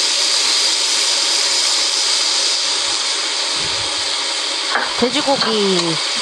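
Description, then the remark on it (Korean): Pork belly sizzles steadily in a hot pan, a bright continuous hiss, with a few scraping stirs and clinks near the end. No one speaks. “돼지고기 넣은 거죠? 네네 돼지고기 복살로 샀습니다.”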